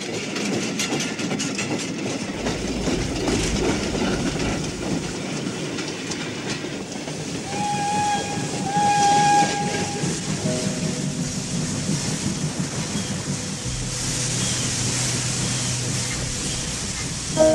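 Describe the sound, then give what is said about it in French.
A steam train rumbles and clatters along with a steady, rhythmic clack of wheels, then a sustained high-pitched whistle sounds partway through over the continuing roar of the moving carriages. “Le train, maintenant, s'est arrêté.”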